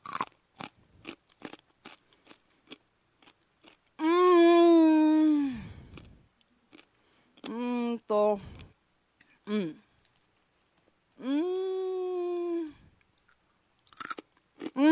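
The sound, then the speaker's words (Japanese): Crisp, rapid crunching and chewing of deep-fried eel bones, a snack called Unagi Bone, a steady run of sharp bites at first, then a few more crunches scattered between stretches of a man talking. “もう普通の骨が唐揚げ、あ、揚げられてる感じですね。”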